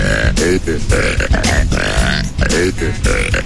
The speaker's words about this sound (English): I invented a new dance using my burps. Check it out.